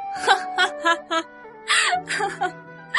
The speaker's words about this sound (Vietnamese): Nàng cười, giọng cười lâu dần bỗng biến thành tiếng khóc.